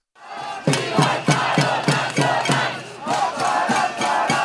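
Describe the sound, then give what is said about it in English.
Protesters at an anti-government demonstration in Colombia chant the slogan 'Long live the national strike' in unison, loud voices rising and falling in a steady rhythmic cadence with repeated emphatic beats, broad crowd noise filling the background throughout. “These protesters are shouting, "Long live the national strike."”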